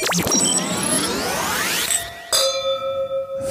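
Bright glass clinks ring out, a first chime with shimmering overtones fading, then a second clear ding around two seconds in that rings on with a sustained tone. No talking.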